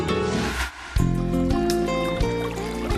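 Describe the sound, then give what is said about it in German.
A short musical jingle introducing a doctor-series segment, with sustained harmonic tones and a bright, layered melody, starting after a brief dip and playing loudly and steadily with no voices. “Der Jingle bitte.”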